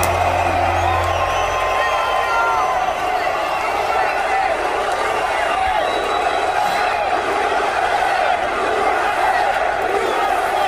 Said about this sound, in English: This was the crowd at President Trump's rally in Philadelphia.